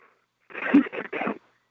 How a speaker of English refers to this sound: I wonder what it sounds like if you cough into this thing.